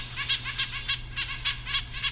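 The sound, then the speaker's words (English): Red-breasted nuthatch calls: about eight short, nasal, tooting notes repeated in a quick, steady rhythm, clear over a low, constant background hum. “But it may be worth the calories for, say, a red-breasted nuthatch when the alternative is to break off from the flock in search of liquid water, leaving it exposed to predators such as hawks.”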